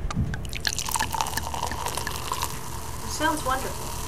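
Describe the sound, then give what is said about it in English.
Cheap sparkling wine, a $4 bottle of André Brut carbonated in large vats before bottling, fizzes steadily after its plastic cork is twisted open, with a busy crackle of large bubbles popping and splashing at the surface. A liquid gurgle runs underneath for a few seconds. “And it came right out, and large bubbles are rising to the top.”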